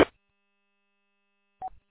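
A handheld radio fails to key up on the Mount Clemens tower repeater: a short burst of static, near silence with a faint steady whine, then a brief tonal beep and crackle before it cuts off.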